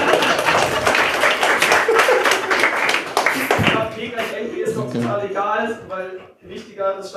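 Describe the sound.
A burst of dense audience applause fills the first half, many hands clapping loudly at once, then dies away as a person starts talking.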